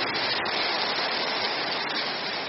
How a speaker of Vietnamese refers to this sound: Nào, hoan hỉ cho một chàng vỗ tay thật to, thật giòn giã lên nữa.